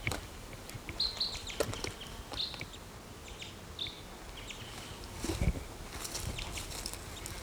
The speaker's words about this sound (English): Now the mate of the female is calling from this tree.